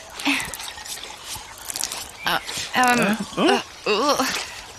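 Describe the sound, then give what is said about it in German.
Water splashes and trickles as it is poured from a bottle over hands, a steady pour for a couple of seconds, followed by short wordless vocal sounds. “Streck bitte mal deine Hände aus, dann gieße ich etwas Wasser drüber.”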